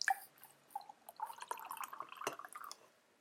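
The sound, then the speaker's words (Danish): A few drips, then liquid trickles steadily into a cup for a second or so before stopping. Tea being poured, fairly quiet, with no talking. “Men I er velkommen til lige at skrive, så tager jeg lige noget mere te.”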